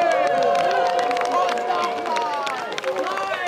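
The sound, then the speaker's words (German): A crowd cheers and shouts in a loud, sustained burst at the opening of the 9th Figurentheaterkonferenz festival in Nordheim, shortly after 6:30 on a Friday, many voices overlapping with scattered whoops and some clapping mixed in throughout. “So klang es am vergangenen Freitag, kurz nach 6:30, als die 9. Figurentheaterkonferenz in Nordheim ihren Beginn fand.”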